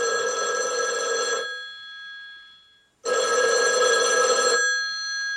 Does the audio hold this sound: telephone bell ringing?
yes